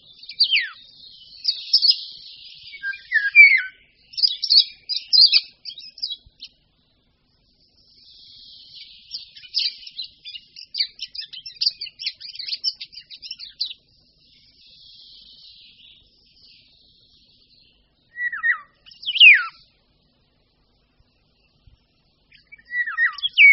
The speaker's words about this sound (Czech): I hned po příletu se žluvy začnou ozývat. Jejich zpěv byl kdysi přepisován slovy kdyby ho bylo, k čemuž prý lesníci připojovali to by se pilo.